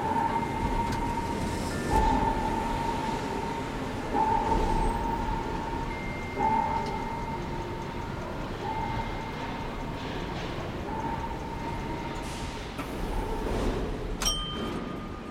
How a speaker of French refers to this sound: Paris, quartier des arts et métiers. Nous entamons notre plongée vers le monde des cités obscures, plusieurs mètres sous terre, sur le quai de la ligne 11 du métro, avec l'écrivain et scénariste Benoît Peters.